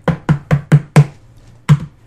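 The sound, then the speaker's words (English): Five quick, evenly spaced knocks on a hard surface, then a brief pause and one final knock. The hits are close and fairly loud, with a dull, resonant thud and no voices. “After shooting the webbing, the spider just starts knocking the ground”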